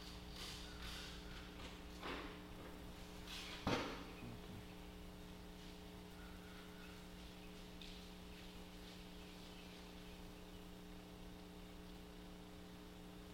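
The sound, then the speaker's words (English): A door is handled and opened from the side: a few soft taps and bumps, then a sharp latch-like click partway through, all fairly quiet over a steady electrical hum with no one talking. “You can open the door. No, from the side you have to open.”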